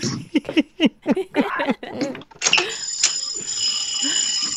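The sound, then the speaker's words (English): After a moment of indistinct talking, a loud, continuous electric fire alarm bell in an old building where the speaker is staying starts ringing and keeps going steadily without a break, shrill and sustained. “I think it's the fire alarm for this old dumb building that I'm staying at”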